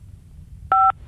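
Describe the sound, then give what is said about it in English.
A short mobile phone keypad tone beeps, from pressing the keys 5 and 4, clear against a faint low background hum with no talking. “Do you want to give me a high five on your phone?”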